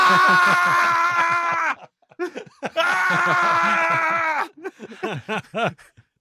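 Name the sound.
person screaming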